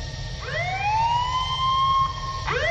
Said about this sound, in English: Whatever her next words might have been, they were cut short by the blare of an alarm, followed by words that echoed throughout the ship.